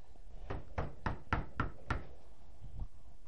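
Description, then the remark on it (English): Six firm knocks on a door in a steady, quick rhythm, fairly loud, followed after a pause by one fainter knock, with no talking. “They put the limit on him because he knocks on the door.”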